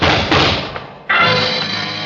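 Muffled gunshots behind an office door in a cafe: a couple of loud, heavy blasts about a second apart, each leaving a long dull rumbling decay, with no voices.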